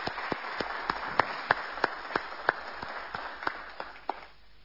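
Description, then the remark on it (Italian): An audience applauding on behalf of the whole city for a fellow citizen, steady over a dense wash of clapping, with a few sharp, louder claps standing out in a regular beat before it fades near the end. “al quale dedicherei un grande applauso a nome di tutta la città.”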